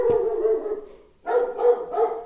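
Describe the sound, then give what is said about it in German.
A dog left indoors lets out a short bark and then drawn-out, wavering howls in two long bursts with a brief pause between, fairly loud with no one talking. “So viel zum Thema, ich lasse den Hund hier drinnen und dann passiert das.”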